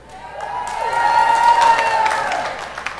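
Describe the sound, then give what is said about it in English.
A crowd cheers and claps together for Jesus for about three seconds, swelling to a peak midway with a sustained whoop or whistle rising above the noise before it tapers off. “Well, you ought to do better than that for Jesus. Amen? Let's give him a real cheer.”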